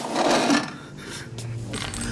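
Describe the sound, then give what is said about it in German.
A small metal handcuff key drops onto a hard surface, landing with a bright clink and a short scraping rattle before settling. No one speaks. “Der Schlüssel für die Handschellen.”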